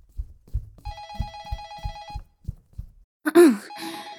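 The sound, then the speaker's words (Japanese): A telephone rings at the Romantic Doll love-doll shop with a warbling electronic trill lasting over a second, then starts again briefly at the end, over soft rhythmic low thumps and a short vocal groan. “あ、やっべ、電話。”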